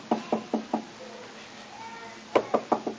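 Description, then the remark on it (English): Light, hesitant knocking demonstrating a timid knock on a door: a set of four evenly spaced raps, a short pause, then another four slightly firmer raps, with a faint murmur underneath. “Nobody's coming to the door.”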